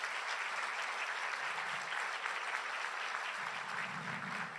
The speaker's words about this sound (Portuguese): Dê uma salva de palmas ao Senhor.